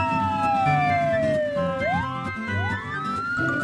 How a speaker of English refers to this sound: This is a police car.